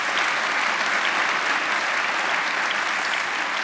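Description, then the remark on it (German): Steady audience applause, a dense wash of many hands clapping at an even loudness throughout, with no voices rising above it. “Wir dürfen gerne klatschen, natürlich, über dieses wunderschöne Tor.”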